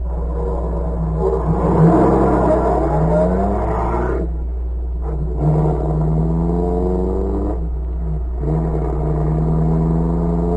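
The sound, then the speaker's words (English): A car engine revs and accelerates as it pursues another car along a road, its pitch climbing through several gear changes with brief dips between, a steady low rumble underneath throughout. “Speed up. Cover's only a little way ahead.”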